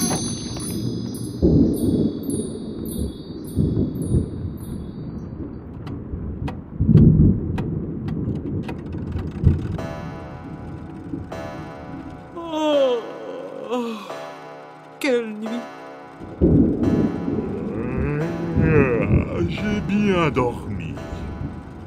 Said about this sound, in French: Mais il pleut des cordes.